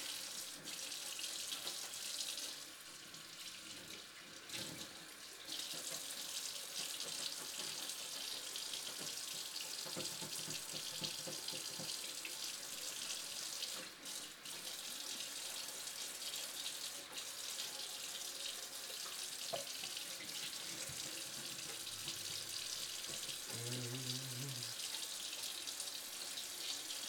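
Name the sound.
water running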